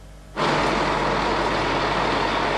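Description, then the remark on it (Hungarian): A truck rolling into its depot on a Saturday morning: a low engine rumble, then a sudden loud burst of sustained hissing air, like a brake releasing, continuing steadily with no voices. “Ez a kamionos szombat délelőtt gördült be telephelyére, vagyis megszegte a kamionstop szabályait.”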